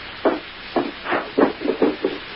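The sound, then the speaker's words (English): Someone raps firmly on a door about seven times, the knocks coming in an uneven rhythm that quickens toward the end, with no voices. “Just hold on a minute. The door.”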